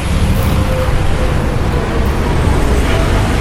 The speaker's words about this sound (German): Das größte Krankenhaus Guatemalas, das Hospital Roosevelt, liegt etwas außerhalb des Zentrums, direkt am Trébol, dem Kleeblatt, einem dieser chaotischen Verkehrsknotenpunkte der Stadt.